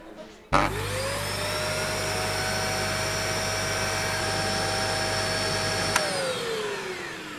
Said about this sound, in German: aber wir haben eine sehr große Leistungsstärke und da muss natürlich ein bisschen Power hinterstecken und da sind wir stolz drauf. Der Staubsauger als akustisches Ereignis? Wenn man so möchte, natürlich. Und das hören wir uns jetzt mal an.